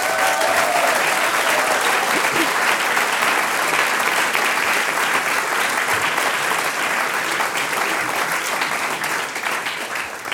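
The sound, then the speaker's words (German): An audience applauds loudly and steadily for about ten seconds for a group of young singers, some performing for the first time, a dense wash of clapping hands that fades slightly at the end, with no voices standing out. “Also einen ganz großen Applaus und bin richtig stolz, dass ihr da heute dabei seid.”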